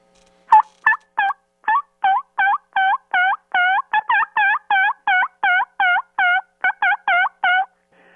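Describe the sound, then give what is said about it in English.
A turkey call imitates a gobble: a rapid run of about twenty sharp, throaty yelping notes in a steady rhythm, loud, with no talking over it. “you can't even get a bird to talk to you nowhere around. It's not the same every day. Well, can I get a sample right now?”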